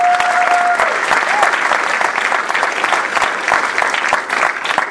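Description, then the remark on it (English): An audience at a Desert AIDS Project honors event applauds the honorees steadily, a dense wash of clapping hands that stays loud and even throughout, with a brief high tone at the very start. “Let's give them all a round of applause, please.”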